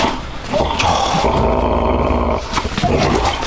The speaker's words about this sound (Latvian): Arī šoreiz holandis ganu suns ir ko saodis. Apstājās, ko tas nozīmē? Tur varētu būt. Tiek apbalvots suns, to, ko viņš ir atradis.